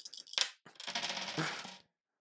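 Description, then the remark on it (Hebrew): Three dice clatter and rattle across a hard surface, a sharp initial knock followed by a busy, tumbling roll that settles after about two seconds. Fairly loud, with no voices. “אללה לה, הוא יתקח 3 קוביות.”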